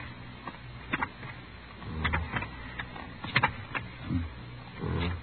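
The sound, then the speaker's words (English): An IBM punch card machine sorting and reading punched cards, with sharp irregular clicks and rattling bursts over a steady low mechanical hum, and no voices. “I can't, but this IBM machine can.”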